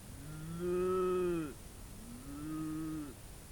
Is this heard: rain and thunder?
no